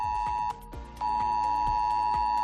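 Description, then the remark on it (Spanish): A loud, piercing emergency alert tone, sent by the 112 Emergency Coordination Centre of the Generalitat to all mobile phones in the province of Valencia, Spain, sounds steadily, cuts out briefly after half a second, then resumes, with a rhythmic buzzing pulse beneath it and no voices. “Este es el sonido que acaba de sonar hace menos de una hora en todos los móviles de la provincia de Valencia.”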